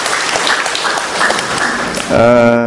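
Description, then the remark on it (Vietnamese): A crowd claps steadily in dense, crackling applause for about two seconds, fairly loud, before a sustained voice or tone takes over at the end. “Rồi, cảm ơn bạn, một tràng pháo tay thưa anh chị em.”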